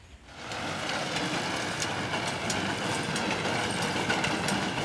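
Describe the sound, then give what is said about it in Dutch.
An old-fashioned tractor drones steadily as it threshes grain in a meadow behind a house in Zuidwolde, a dense, continuous mechanical rumble and clatter that swells in within the first half second and then holds at an even level. “Nou, Alfred Poort schrijft, het is het graan dat door een ouderwetse tractor wordt gedorst in het weiland achter mijn huis.”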